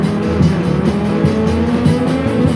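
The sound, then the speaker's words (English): A black-and-white muscle car's 383 V8 engine roars and accelerates hard, its pitch climbing through several gear shifts, with tires squealing beneath the loud engine noise. No voices. “A 383 down to the floor. Got an engine and a gun.”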